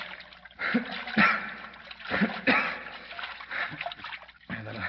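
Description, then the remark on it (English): Water splashes and sloshes in irregular bursts, fairly loud, as someone moves around in it holding a limp person's head above water after falling through a trap door, with a low murmur of voices underneath. “I'll keep his head up above water.”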